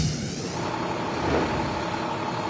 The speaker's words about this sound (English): You can actually probably hear the rumble of the engine of that Durham Police Mobile Command Unit as it gets ready to drive off of this scene.